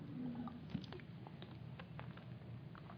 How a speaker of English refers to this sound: Let those words sink while I drink water.